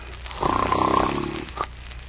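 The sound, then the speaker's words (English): A man gives a single loud, rasping snore lasting about a second, close by, followed by a short faint snort. There is no talking. “Now the fat went to sleep too, boys.”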